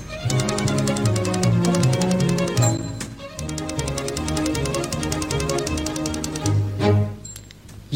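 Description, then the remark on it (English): A bright instrumental jingle built around rapid typewriter key clacks and a carriage bell, set to a bouncy tune with steady rhythmic typing through the whole piece, loud. It is a radio broadcast's musical typewriter jingle introducing the listener mailbag segment. “when you hear our musical typewriter, then you know that it is mailbag time.”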